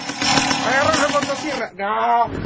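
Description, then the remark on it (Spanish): A voice mimics a chainsaw revving, a buzzing, growling drone that rises and falls in pitch for a couple of seconds, briefly dropping before revving up again, loud. “Agarró la motosierra.”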